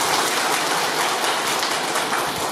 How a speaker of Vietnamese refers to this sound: Các vị nghe pháp, cho một tràng pháo tay khen các vị đó.